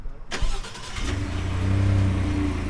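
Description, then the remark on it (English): A mosquito-spraying truck engine rumbles, starting with a sharp mechanical clatter before settling into a steady, low droning hum as the truck rolls past, spraying roads between Woods Hole and Falmouth Town Hall in Falmouth, Massachusetts, on a Wednesday evening. “For the first time in Falmouth history, the project is using trucks to spray the roads between Woods Hole and Falmouth Town Hall.”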